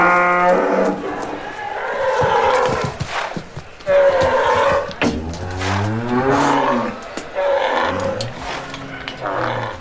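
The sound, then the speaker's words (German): A restless white-horned cow bellows loudly and repeatedly as it jumps, half-turns and kicks out, long moaning moos following one another almost without pause, some rising and falling in pitch, with no talking. “Da, eine Kuh, sie wirkt störrisch.”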